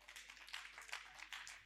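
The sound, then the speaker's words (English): A worshipping audience claps their hands for Jesus Christ, a dense, overlapping patter of many claps, fairly soft and steady with no voices over it. “Come on, clap your hands for Jesus Christ.”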